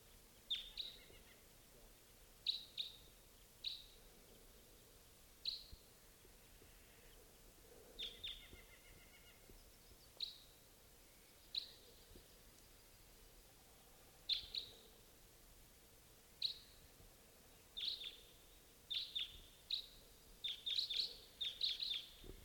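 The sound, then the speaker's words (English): A flock of birds calls in short, high chirps, scattered at first and then coming faster and overlapping toward the end, over a low, steady background hiss. “Here comes a bird. Flock.”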